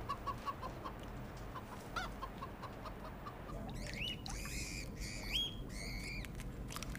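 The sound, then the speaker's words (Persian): Chicks grown from microscopic cells in a test tube peep and cluck continuously, with soft chirps early on giving way to louder, overlapping high-pitched peeps in the second half, without any talking. “نظرتون درباره این جوجه ها چیه؟ خیلی شبیه جوجه های طبیعی از کار در اومدن، نه؟”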